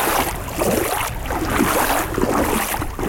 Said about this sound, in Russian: Я в Юрмале, иду по кромке моря. Вода прохладная, но...